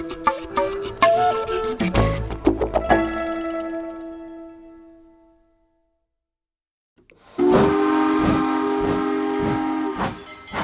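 A train clatters along the rails with sharp metallic clanks and ringing tones that fade to silence, then a loud, sustained whistle sounds over rhythmic wheel beats. No voices.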